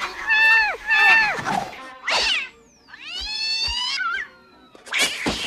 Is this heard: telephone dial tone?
no